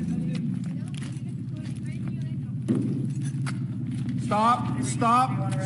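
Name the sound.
truck backing up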